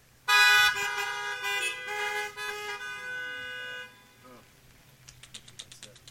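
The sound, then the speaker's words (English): Loud car horns blare together for a few seconds, a long sustained honking chorus from drivers signaling difficulty receiving a broadcast, that fades out, followed by faint rhythmic chirps and background murmur outdoors. “If you're having some difficulties receiving, you honk your horn real quick.”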